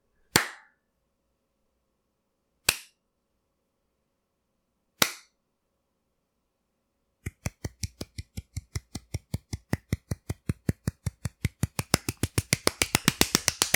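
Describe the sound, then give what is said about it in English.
A slow clap of about 35 seconds: three sharp, widely spaced hand claps, then a steady run of claps that speeds up and grows louder, building into rapid clapping by the end. No voices. “That was a whole fucking 35-second clap solo.”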